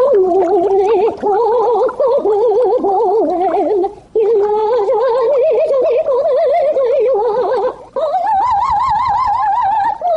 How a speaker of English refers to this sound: So what are you waiting for? Your goldfish to sing Bizet's Carmen?